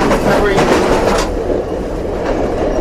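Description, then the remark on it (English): A train, heard aboard the passenger car named Dawson Manor, car number 8319, rolls along the rails with a loud, continuous low rumble and hiss, broken by a quick run of clicking wheel-clacks early on before settling into a steady roar. “And by the way, we're staying in the car.”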